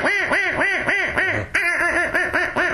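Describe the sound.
A person makes a yelp with a rough 'rah rah' sound put in: a rapid run of rough, raspy duck-like yelps, about ten harsh quacking notes in quick even rhythm, loud with no talking.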